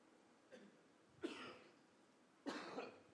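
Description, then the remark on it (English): Two sharp, breathy coughs about a second apart, each with a rough rasping tail, preceded by a faint little throat sound. Quiet overall with no talking. “See, he coughed and made me cough.”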